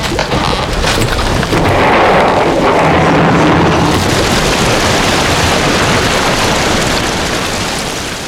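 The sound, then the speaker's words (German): A dense, steady roar of rushing water from a waterfall, where a bridge had just stood, fills the whole range, loud and unbroken like a torrent pouring over a fall, with a heavier rumbling surge early on that gradually eases. “Und in der nächsten Sekunde war da, wo zuvor die Brücke gestanden hatte, nur noch ein Abgrund aus tosenden Wasserwassern.”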